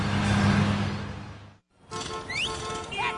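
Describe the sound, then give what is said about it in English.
A car engine rumbles loud with a steady low drone in traffic, cuts out for a brief silence, then busy street noise returns with a few high chirping whistles. “Yeah, traffic again.”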